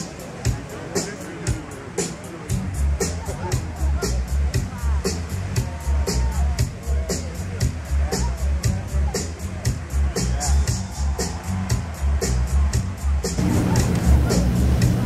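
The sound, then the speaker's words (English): A steady murmur of an outdoor crowd at the Bellagio's dancing water fountain show on an 8-acre lake in Las Vegas, many voices blending into continuous chatter, with a regular pulsing beat running underneath and swelling slightly louder toward the end. “The crowds are entertained by the 8-acre lake with dancing water fountains.”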